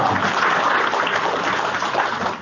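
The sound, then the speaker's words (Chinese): Steady applause from an audience at a Buddhist talk, after the speaker offers to tell a joke, lasts a couple of seconds, a dense, even patter of clapping at moderate volume, somewhat subdued rather than rousing, with no one speaking over it. “好像鼓掌不是太热烈。”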